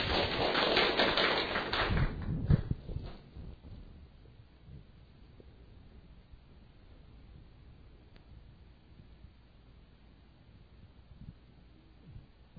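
A brief burst of audience applause welcoming a doctor, dense and crackling, lasts about three seconds before fading away, leaving a long stretch of near silence with faint low rumbles.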